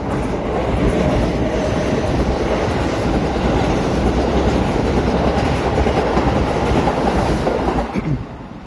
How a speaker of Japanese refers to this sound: 今はですね、また八幡方面から千葉の方に走る京成電車が私の目の前を、真横を通り過ぎてきましたが、というように私今京成線の沿線を歩いてまして、ちょうどですね、今鬼越のところにあります、踏切のところに来ております。